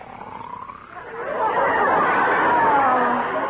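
snoring

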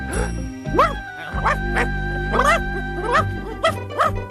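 puppy barking and whimpering

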